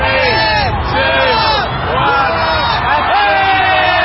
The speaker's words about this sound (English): In one of the globe's most watched New Year's Eve spectacles, the crowd counted down the last seconds of 2019 as a luminescent crystal ball descended down a pole.